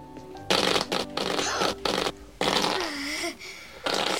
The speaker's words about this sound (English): Alfalfa blows out the match, then sits on a whoopee cushion atop his chair.